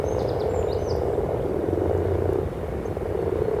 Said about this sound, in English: the surface of the pond is covered with frog spawn, and everywhere you look there are frogs. And this wonderful constant sound from them.